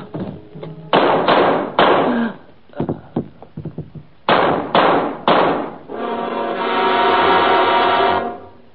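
sound effect, gunshots

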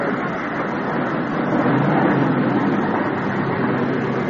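vehicle, car pulling up

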